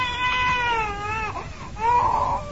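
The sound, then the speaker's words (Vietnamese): An infant fusses and cries while being breastfed, not getting enough because there is little milk. Drawn-out, wavering wails break briefly before a louder, strained cry rises again. No one speaks. “Vì sữa ít nên em bú không no đủ nên em cằn nhằn.”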